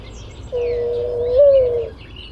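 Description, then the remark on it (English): A single soft, drawn-out mourning dove coo, played as the dial tone in the handset of a bird-calls phone, rises slightly and then fades, clear against a low background hum, with no other sounds around it. “This is your dial tone. It's a mourning dove.”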